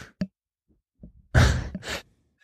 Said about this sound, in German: Jetzt muss ich niesen.